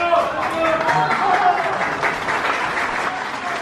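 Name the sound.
audience applause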